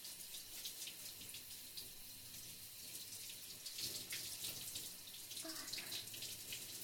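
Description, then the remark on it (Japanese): A steady spray of shower water runs continuously, hissing and splashing with small shifts in intensity as it rinses a person's back, with no voices. “次は背中を流しますね。最後に前を流しますよ。”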